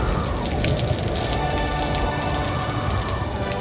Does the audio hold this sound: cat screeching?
no